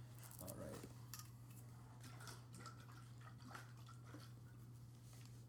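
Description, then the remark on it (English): Thick barbecue sauce pours in faint, wet, irregular drips and splats over a steady low electrical hum, quiet, with no one talking. “And as I pour this, it's every bit as thick as that first one.”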